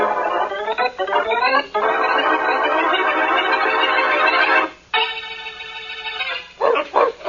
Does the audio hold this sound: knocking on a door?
no